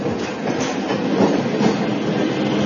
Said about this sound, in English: Which station is this? It's Parivartan. Oh, Parivartan. Looks like the train is running on time.